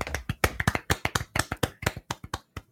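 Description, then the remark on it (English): Short round of clapping: about a dozen sharp, crisp hand claps in a quick, slightly uneven rhythm, moderately loud, with no voices over it. “Please clap, everyone.”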